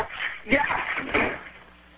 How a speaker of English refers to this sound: So you can imagine her terror when the bank came to change the locks on her house. In her particular instance, you do not have to imagine that, because it all played out on this 911 call. You hear somebody trying to open the front door?